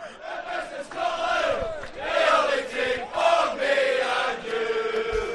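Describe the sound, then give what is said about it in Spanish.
A crowd of football fans at the Atlético Madrid–Celtic match chants together in loud, sustained waves of voices as rain begins, the rhythmic group singing rising and falling steadily throughout with a few sharp thumps underneath. “Pues ahí los tienes, Corro. Están animados.”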